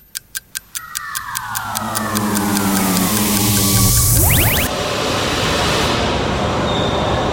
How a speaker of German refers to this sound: Ach, da kommt endlich unsere S-Bahn. Och nö, ist die wieder voll.